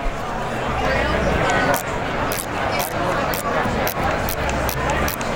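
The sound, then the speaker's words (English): A braille display's motor-driven dot cells refresh in a series of short, sharp mechanical clicks, about two per second, while the main menu is scrolled through, heard over a steady, murmuring background noise. “I'll go ahead and show what it sounds like to kind of refresh the display here.”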